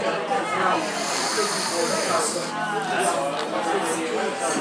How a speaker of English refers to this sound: So we're going to... I'm going to... have a sniff now. Here we go. Hang on. Get the microphone nice and close.